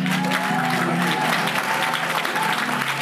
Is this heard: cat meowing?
no